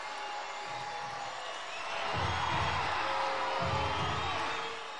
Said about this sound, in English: You can hear the crowd. There is a lot of people here for Friday Night Baseball.